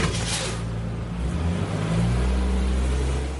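A large school bus engine rumbles low and steady, then revs higher as the bus pulls away from the curb in a residential neighbourhood in Dallas, Georgia, with a brief hiss near the start and no voices.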